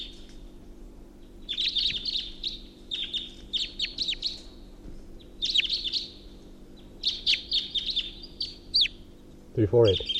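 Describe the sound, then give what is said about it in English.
A bird, numbered 348, gives its alternate call: repeated bursts of high, rapid chirping phrases in irregular clusters over a steady low hum, ending with a brief louder descending call. “Three four eight alternate call.”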